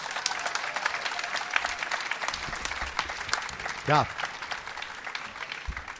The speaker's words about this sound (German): Dankeschön für diesen Applaus.